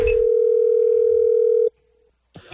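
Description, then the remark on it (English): A steady, loud telephone dial tone, as a prank phone call for a phone scam segment on the Wake Up Call is placed, hums for about a second and a half, then cuts off abruptly, followed by a short silence and a brief burst of noise. “And he's calling to get a new member for this gym.”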